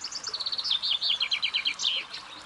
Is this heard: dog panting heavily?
no